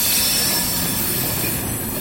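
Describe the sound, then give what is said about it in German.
Freight wagon brakes squeal at a marshalling yard. The brakes are mounted between the individual switches and stop the freight wagons from rolling quickly down the hump. A steady, loud rail rumble with thin high-pitched screeching tones running over it for the whole stretch. No one speaks. “So ein Rangierbahnhof macht ziemlich Lärm, vor allem die Bremsen, die zwischen den einzelnen Weichen montiert sind.”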